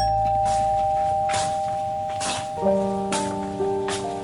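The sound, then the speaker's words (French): A doorbell rung by journalists at a woman's door chimes with sustained ringing tones, then a second, lower chime joins partway through. A steady hiss with periodic rushing bursts runs underneath, with no talking. “Des journalistes sonnent à sa porte.”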